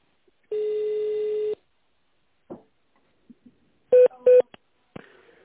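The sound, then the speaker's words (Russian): On a phone call to the company Hagu Industriwerke, an employee's extension is dialed in tone mode: a steady one-second electronic beep, a few faint clicks, then two quick touch-tone key presses, each a short bright dual-tone burst, followed by a soft click. No one speaks. “Если вы знаете внутренний номер сотрудника, наберите его в тональном режиме или дождитесь ответа секретаря.”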